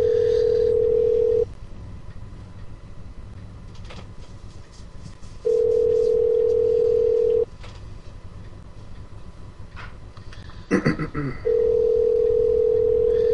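A telephone ringback tone repeats on an outgoing call: steady electronic rings of about two seconds each, separated by longer pauses, over a low background rumble, with a brief burst of beeps near the end.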